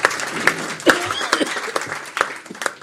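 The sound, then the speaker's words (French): A crowd applauds steadily for a few seconds for local officials just greeted, including Jean-Yves Parronneau, mayor of Bostens; a dense patter of many hands clapping at moderate volume, with a faint voice briefly audible beneath it. “On peut peut-être les applaudir après tout.”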